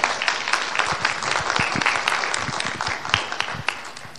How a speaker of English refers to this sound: You know, great, yes, clap, please.